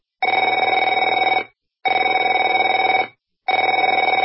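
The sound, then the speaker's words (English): A telephone rings loudly in three long bursts, each a rapid metallic trill lasting over a second, separated by brief pauses, with no voices. “Afraid to answer it?”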